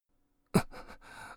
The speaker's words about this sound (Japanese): 息がそんなに上がって、あなたの息遣いを聞いていたら、私も興奮してまいりました。